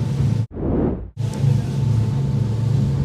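A speedboat engine drones steadily at high speed on the way to the Islas Ballestas, water spraying in, a loud, continuous low rumble with a brief dip in the middle where it cuts to a softer whooshing before roaring back.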